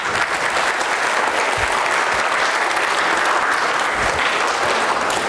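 An audience claps steadily for about five seconds, a dense, even wash of many hands at consistent loudness, heard close in a room with no talking over it.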